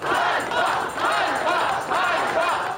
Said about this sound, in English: The crowds chanted shame in a rare public challenge of Zelensky's leadership.